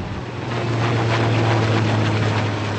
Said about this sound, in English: U.S. naval helicopters pass repeatedly overhead, hugging the shoreline, bringing supplies to remote towns farther down the coast.